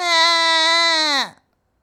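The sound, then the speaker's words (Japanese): A child's loud, sustained wailing cry, one long steady howl that drops in pitch and breaks off abruptly, followed by silence. No one speaks over it. “子供は一層激しく泣き、静まる様子もありません。”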